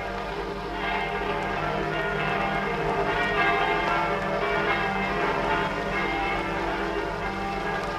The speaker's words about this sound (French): Par ordre du gouvernement provisoire de la République, messieurs les curés sont requis de faire sonner les cloches de leurs églises pour annoncer l'entrée des troupes françaises et alliées dans Paris.